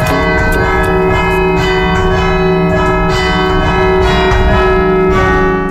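Church bells ring out a melody, striking notes one after another in a steady rhythm with long ringing overtones that blend together. Loud and continuous, with no voices.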